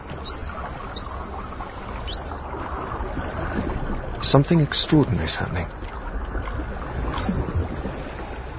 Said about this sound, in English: uses her unique call to identify herself to other dolphins. Yet strangely, there are no other dolphins around.